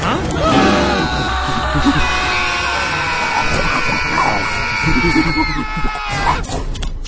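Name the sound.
gorilla roaring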